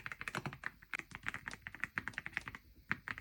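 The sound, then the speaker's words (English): Rapid typing on a newly built mechanical keyboard being tested, a steady stream of crisp, clacky keystrokes with no voices, the taps coming in quick irregular bursts. “Once it was completely built, it was time to test it and see what it sounded like. So here's some ASMR.”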